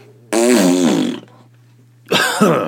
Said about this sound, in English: I mean, it was like an a rectal explosion that was like catastrophic in nature.